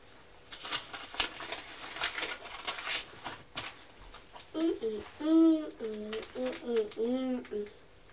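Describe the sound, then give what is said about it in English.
A bird tweets in a run of repeated, warbling call notes over the last few seconds, clear, after a stretch of soft rustling and clattering noise. “I can still hear the bird tweeting.”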